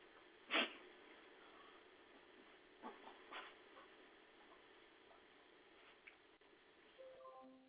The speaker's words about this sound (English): Dogs, calm down.